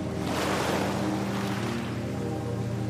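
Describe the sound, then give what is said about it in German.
Surf rolls and breaks on a beach as young sea turtle hatchlings reach the water's edge, with a steady wash of foamy noise, one wave cresting loudly early on before settling into a continuous rushing hiss. “Unsere kleine Schildkröte erreicht schließlich die Wasserkante. Vor ihr bäumt sich die erste Welle auf.”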